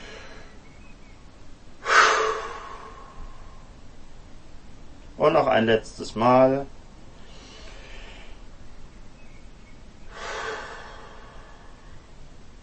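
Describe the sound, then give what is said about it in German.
Deep, audible breaths during a guided breathing exercise with eyes closed: a loud inhale deep into the chest early on, a short spoken phrase in the middle, then a softer exhale with a sigh and another long, airy breath in. “Und atmen ganz tief in die Brust.”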